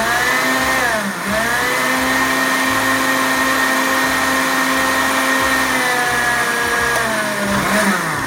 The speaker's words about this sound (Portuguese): Nós vamos colocar todas essas coisas aqui, ó. As folhas de couve, a hortelã, as maçãs, a água de coco, tudo no liquidificador. Vamos bater, bater, bater. E depois tomar sem coar.